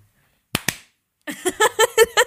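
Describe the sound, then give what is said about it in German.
Two people clap their hands, two sharp claps landing a split second apart, clearly out of sync. After a short silence, a voice breaks into rhythmic, pulsing laughter. “Das war total dumm, wenn man nicht synchron klatscht.”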